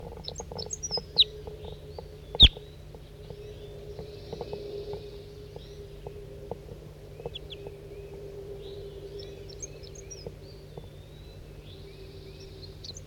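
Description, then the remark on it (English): A single wild bird, recorded as bird 4-3, calls in short, high chirps and twittering bursts scattered throughout, fairly faint over a steady low hum, with one sharp click early on and no talking. “Recording bird 4-3.”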